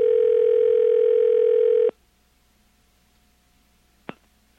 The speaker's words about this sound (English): I think I hear the phone ringing.